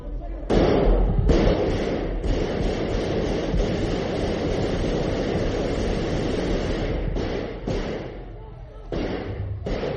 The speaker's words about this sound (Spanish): Bueno, ahora ya sabemos que esa ráfaga, esos disparos, lo único que hicieron fue estropear el techo del Congreso de los Diputados. De hecho, saben que los impactos de las balas siguen visibles en el techo del Congreso de los Diputados,